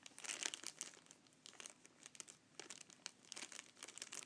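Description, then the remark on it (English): A plastic Ziploc zip-top bag crinkling as it is handled, a steady stream of sharp, irregular crackles and rustles lasting several seconds, with no talking. “I thought there was a bit of a paper thing inside here, inside the Ziploc bag.”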